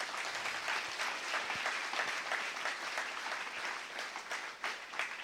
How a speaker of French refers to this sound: L'Église de l'Épi, on peut les applaudir.